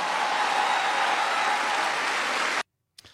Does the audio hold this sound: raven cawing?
no